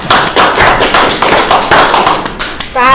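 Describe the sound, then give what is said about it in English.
A small group claps together in a brief, dense burst of steady applause after a 5-0 vote adopting the FY16 operating budget, with a voice briefly breaking in near the end. “Can we clap?”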